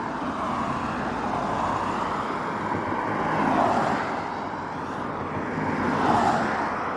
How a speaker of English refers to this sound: But that's just about the end of day one, just on the outskirts of Drimmen now. Wait for all this traffic to go past.